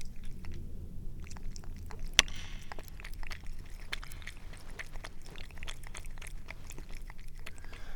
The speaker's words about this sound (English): Let's listen to my cat drink. I'll put the microphone right up to her kitty face.